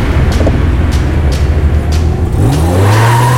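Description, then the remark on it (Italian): A car engine roars, revving hard and climbing in pitch, with tires briefly squealing and skidding as the vehicle swerves after the steering wheel is turned sharply. No voices are heard. “Giro bruscamente il volante e l'auto risponde con una violenza inaspettata. Sbandiamo e stridiamo lungo un percorso imprevisto.”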